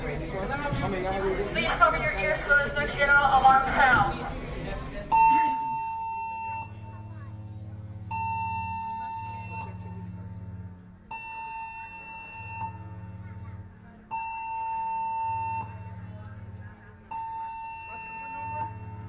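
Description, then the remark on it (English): A ship's general alarm blares during a drill in loud, harsh buzzing blasts, about five long tones evenly spaced with short gaps, after a few seconds of busy background voices. “At the completion of this announcement, the general alarm will be sounded.”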